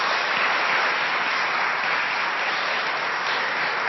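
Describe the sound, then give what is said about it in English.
A steady wash of audience applause, many hands clapping densely and evenly at a fairly loud level for several seconds, with no voices standing out. “So I think you can have a round of applause and you can go and sit yourself down.”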